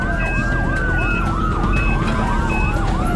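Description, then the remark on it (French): An ambulance siren wails in quick, repeating rising-and-falling sweeps, loud, over a steady low rumble of road traffic with short high beeps breaking through, as the ambulance rushes a critically ill 66-year-old man from his home in Christiansburg, Virginia, to hospital. “Si l'ambulance n'atteint pas l'hôpital très vite, le vieil homme risque de mourir.”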